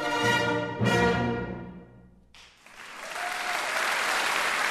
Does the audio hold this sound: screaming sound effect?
no